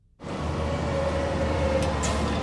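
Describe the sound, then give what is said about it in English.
A loud diesel bus engine roars, a heavy low rumble with a steady droning whine that starts abruptly and holds at full volume for a couple of seconds, with no voices. “So who hasn't run from the stinky wake of a noisy bus or semi?”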